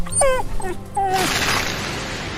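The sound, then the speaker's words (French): A dog named Moonshan whimpers and yips, a quick run of high, wavering whines over about a second, then gives way to a steady background hiss. “En parlant de chien, toi tu m'aimes, hein, Moonshan.”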